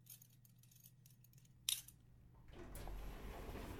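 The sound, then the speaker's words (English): Elevator keys are pulled out with faint metallic jingling and rustling at an apartment building, then a sharp click stands out, followed by a louder, steady rushing noise. No one speaks. “Let me just take out the keys to the elevator so we can get up to our floor.”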